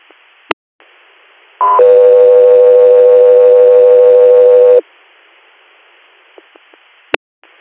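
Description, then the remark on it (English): A loud, steady radio dispatch alert tone sounds for about three seconds over a faint radio hiss, bracketed by brief squelch clicks from the transmission opening and closing, just before a call for an inter-hospital air patient transport. “Echo 3 here, standby for tone.”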